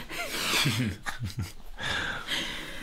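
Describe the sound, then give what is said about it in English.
A female pet, watching intently, breathes heavily with a few loud, rasping breaths and snuffles in a loose rhythm and brief pauses between them. “She's watching me very intently. Don't mind her heavy breathing.”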